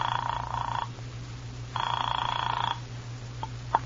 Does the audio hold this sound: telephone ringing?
yes